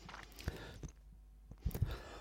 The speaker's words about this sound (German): Ich muss mal mal husten.